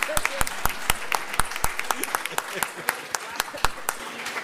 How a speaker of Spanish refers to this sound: ¿Está bien, compañera? Un aplauso.